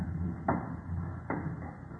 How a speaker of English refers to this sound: Ah, this confounded wooden stairway, it creaks so.